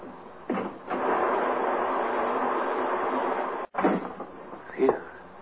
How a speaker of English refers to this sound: Is the rain letting up a little, or am I just getting used to it? It doesn't sound as bad as it did.